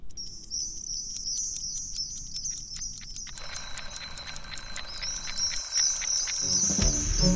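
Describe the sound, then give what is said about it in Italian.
An alarm clock rings in the morning with rapid, repeating high-pitched pulses, steady, with no one speaking; partway through, a denser, hissy background joins in beneath it. “La prima cosa che vedo quando apro gli occhi la mattina è la sveglia.”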